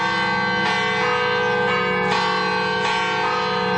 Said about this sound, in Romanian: Azi dimineață, la 7.37, ora la care, cu un an în urmă, s-a produs prima din cele 10 explozii, au sunat clopotele în 600 de biserici de la Madrid,